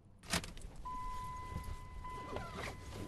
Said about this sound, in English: We climb into a truck and drive past the flat desert plain to the pine-clad hills half an hour west of Reno, to Troy.